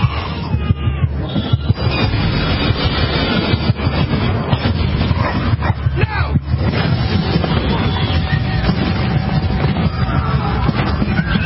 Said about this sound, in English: They're on a train, subway.